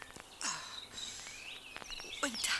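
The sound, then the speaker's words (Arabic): Pigeons and a crow call while being fed handfuls of bread crumbs, a busy mix of sharp chirps, a sliding cry and a burst of harsh, raspy calls near the end, all within a few seconds. “وعلاه يا حمامة، أنت حجارة وأنت يا الغرب تحب تأكل غير وحدك.”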